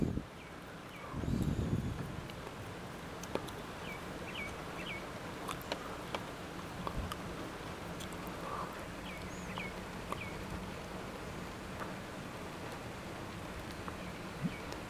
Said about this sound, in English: It's lightly raining.